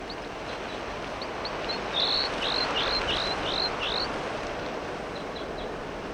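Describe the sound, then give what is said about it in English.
A bird known as 4-3 gives a run of about seven clear, high, down-slurred whistled calls in quick succession, standing out loudly over steady wind noise, with a few fainter chirps before and after. “The wind is blowing pretty much, and 4-3 is calling quite loudly.”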